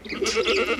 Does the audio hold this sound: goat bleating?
yes